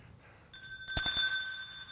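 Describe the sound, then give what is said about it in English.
A bell, rung by a volunteer at the end of a morning church service, rings out with a bright, sustained metallic tone, followed by three quick strikes that add a shimmering, ringing wash, with no voices over it. “And I'm looking for another brave volunteer to ring the bell for us this morning.”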